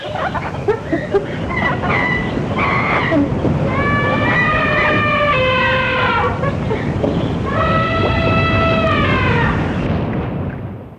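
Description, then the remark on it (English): A dense layered mix: a steady roar of ocean waves throughout, a lion's deep rumbling roars underneath, and two long, tonal elephant trumpet calls rising above it all, loud. The three sounds are played at the same time. “Tres elephant, sonidos en simultáneo. Elephant. Ocean and the lion.”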